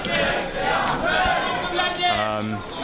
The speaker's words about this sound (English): The line is literally like endless. The recitals are in the middle, but you know, obviously in the front you can't hear it, so we're just shouting Labbaik.